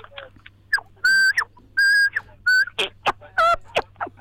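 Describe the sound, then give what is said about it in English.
A person whistles an imitation of a tui's song: sustained pure tones alternating with rapid chirps, sharp clicks, clucking and warbling slides, loud, with no talking. “it won't be as good as Bill's, but it's going to be a tui again”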